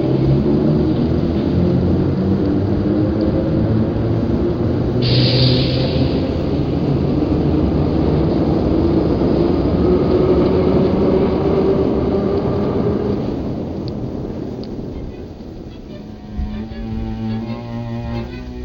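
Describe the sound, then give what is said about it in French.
The first metro train pulls away with a loud, steady rumble and roar that holds for several seconds before fading, leaving a quieter tail where a voice may begin. “Et le premier métro partira.”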